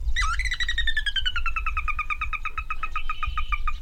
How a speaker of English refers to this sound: The tiny, spindly-legged sora weaves through the reeds and calls back.